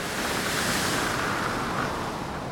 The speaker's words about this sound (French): En effet, les coups de mer arrivent, brisant sur nous avec un bruit violent, inexprimable.